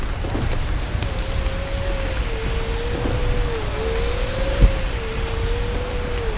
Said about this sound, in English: Hey, it's starting to rain out. You think you can roll that window up for us?